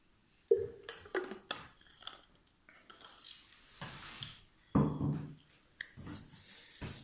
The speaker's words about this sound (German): Ich will jetzt kurz den Schluck Wasser